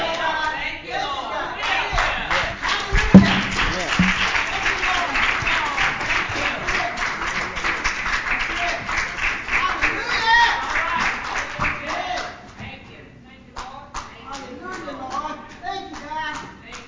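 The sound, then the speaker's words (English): A church audience bursts into loud, sustained clapping and cheering in praise of the pastor for about twelve seconds, then thins out to scattered claps with a few voices underneath. “Man, come on and give Pastor a hand clap of praise.”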